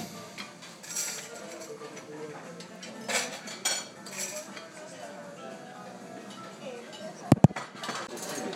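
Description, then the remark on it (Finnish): Cutlery and dishes clink at a breakfast table on a cruise ship, with scattered light metallic taps throughout, a murmur of background voices, and a couple of sharp, louder clanks near the end. “Jotta tämmöistä kilinää.”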